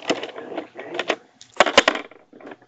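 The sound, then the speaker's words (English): A twenty-sided die, rolled in a tabletop role-playing game to listen at a door, clatters and tumbles across a hard surface. It makes a run of rapid, uneven clicks, with a few sharper knocks before it settles, fading out to light taps. “You may roll a d20, sir.”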